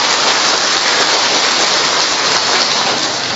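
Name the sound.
big round of applause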